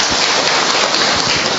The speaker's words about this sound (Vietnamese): Để chúng ta sang thăm người bạn kế tiếp bên cạnh của chúng ta, cho một tràng pháo tay để chúng ta chào mừng người bạn này.